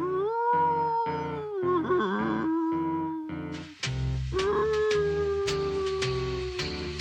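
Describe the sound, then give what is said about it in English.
Long, mournful dog-like howls rise and slide in pitch, loud, riding over a steady rhythmic musical backing with regular low thumps throughout. “I tuned up and sang him a mournful song.”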